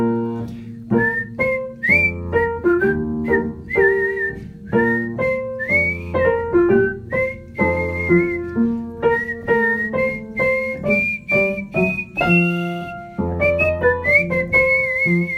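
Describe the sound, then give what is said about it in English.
Two whistled lines of a song weave together, one carrying the lower baritone part, the second line up from the bottom, beneath a higher whistled part, over a steady instrumental backing. The tune is clear and continuous, with no talking. “There's two lines of whistling.”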